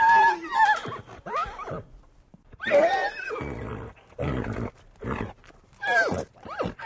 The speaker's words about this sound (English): I was hired to do horse recording for The Horse Whisperer. There was a stallion called Thunder who was an amazing horse. It just was an incredible horse. In the beginning, he was very, very suspicious of me and the microphone.